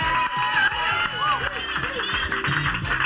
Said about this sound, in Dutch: Ik wilde graag ook even, en dat is de enige die ik nu even op mijn voetstuk ga zetten, een applaus voor